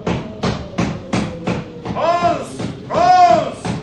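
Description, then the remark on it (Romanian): A steady series of firm knocks on a wooden door by a man, about ten evenly spaced thuds, with a wavering, whistling tone of blowing wind rising over the later knocks. “Suflă vântul de parcă ar bate cineva în ușă.”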